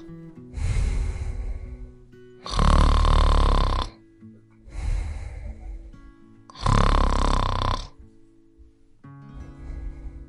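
Loud, rhythmic snoring performed by a voice as the Gruffalo snoring in a read-aloud of The Gruffalo's Child: about five drawn-out snores alternating softer and harsher, rasping ones, each lasting over a second with short pauses between, clear with no other talk.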